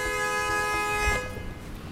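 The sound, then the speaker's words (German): A loud, sustained car horn blares for over a second and then cuts off, leaving the low rumble of idling traffic, in a traffic jam in both directions on Cherokee Orchard Road near Gatlinburg, at the northern edge of the Great Smoky Mountains. “Stau in beiden Richtungen auf der Cherokee Orchard Road bei Gatlinburg am nördlichen Rand der Great Smoky Mountains.”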